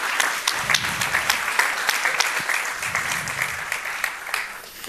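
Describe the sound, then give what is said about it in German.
Audience applause in Baden-Württemberg for two speakers about to give a talk on polyamory fills the whole stretch, a steady dense clatter of many hands clapping at a fairly loud, even level, with no voices over it. “Herzlichen Applaus”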